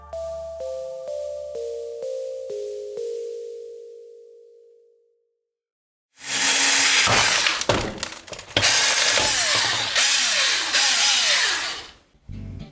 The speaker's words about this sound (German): In einem YouTube-Video zerbohrt der damals 9-Jährige das MacBook seines Bruders als Streich.